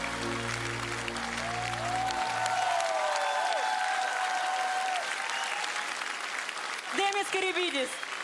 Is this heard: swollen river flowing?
no